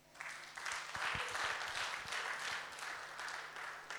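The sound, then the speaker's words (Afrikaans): A crowd applauds steadily for several seconds, many hands clapping together in a dense, fairly loud wash of sound with no voices standing out. “So gee julle self sommer 'n lekker hande klap.”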